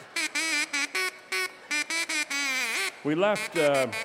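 A duck call is played as a tune, with buzzy, nasal notes held at shifting pitches in a steady rhythm, then a couple of rising and falling swoops at the end. Close and clear, no talking.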